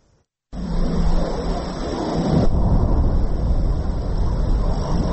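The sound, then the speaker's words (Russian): A loud, jet-like roar of an incoming aerial bomb, heard at Ukrainian artillery positions on the Avdiivka front, cuts in abruptly after a brief silence. It holds steady, turning into a heavier, rumbling roar partway through. No voices are heard. “Шум, как будто реактивного самолета, затем взрыв.”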